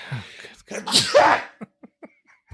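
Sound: sneeze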